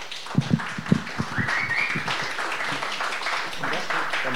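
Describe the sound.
An audience claps steadily for several seconds to welcome a musician about to perform, a dense, even patter of many hands with a few sharper claps at the start, and faint cheering voices mixed in.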